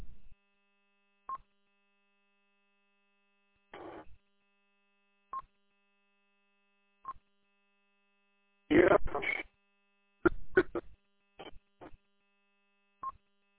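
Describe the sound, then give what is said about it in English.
A series of short electronic beeps and tones sound at irregular intervals over a faint steady hum, with a couple of denser, noisier data-like bursts in between, as heard through a radio receiver. “All I get is a whole bunch of beeps.”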